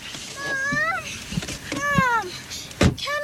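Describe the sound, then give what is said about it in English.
Noises inside a car outside a school after a bolt is undone: repeated squeaky, whining tones that rise and fall, broken up by several sharp clunks and knocks, moderately loud. “We just undo the bolt and listen to the noises they get in the car.”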